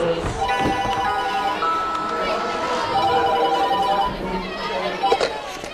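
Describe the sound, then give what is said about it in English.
A telephone rings steadily with a bright, tonal electronic trill at a school reception, heard over the murmur of several people talking. “Sorry, could you get the phone?”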